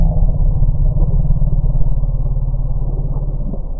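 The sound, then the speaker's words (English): An elephant alarm call warning of bees: a deep, throbbing rumble with a buzzy, pulsing texture that holds steady and loud for about four seconds without a break. “And what researchers think they've discovered is that elephants have a specific alarm call for bees, as sort of a warning that says, hey, there's bees.”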